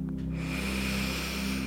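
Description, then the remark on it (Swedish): A long, steady deep breath drawn in through the mouth during a mindfulness exercise, airy and lasting about a second and a half over a low, sustained droning tone in the background. “Andas in.”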